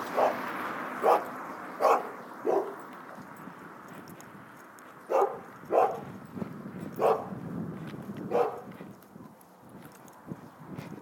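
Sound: dogs barking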